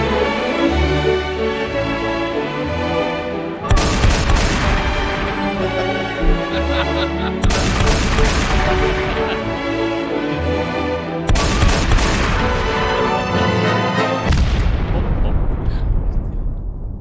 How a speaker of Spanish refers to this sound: Es muy difícil imaginar un enfrentamiento militar sobre el terreno en Groenlandia. Muy difícil imaginarlo. Yo siempre pienso en soldados sobre hielo, como patinaje artístico con disparos. Y sonaría así.